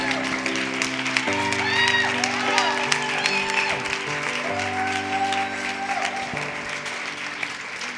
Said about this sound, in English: If you, can you guys just give up a very excited but very appropriate round of applause